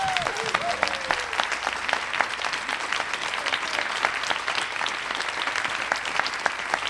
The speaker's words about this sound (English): But I just want to give them a round of applause and thank you.